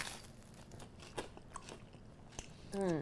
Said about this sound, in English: See, when I say oily bread crunch, I don't really know how to describe it, but... That's delicious.